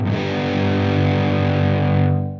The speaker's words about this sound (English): This is when the signal gets boosted so much that the top of the waveform gets completely flattened. This makes it sound squashed and harsh, like when you crank the volume all the way up on a cheap speaker.